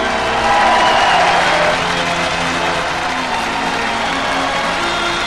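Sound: audience applauding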